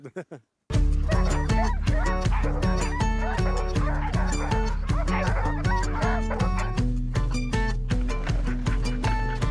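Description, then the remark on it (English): A large pack of sled dogs barks and yelps nonstop, their loud overlapping calls bursting in abruptly after a brief opening and forming a dense, frantic chorus. “And the silence after all the barking is a bit of a relief.”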